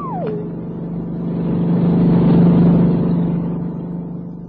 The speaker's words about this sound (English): The whirly birds are looking for me.